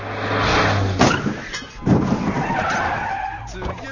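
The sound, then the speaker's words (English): A bicycle slams into a car window with a loud crash as a man trying to jump over the car on his bicycle misses the ramp, followed by a second jolting impact and scraping clatter over a steady noisy rumble. “He broke the car's window with his bike.”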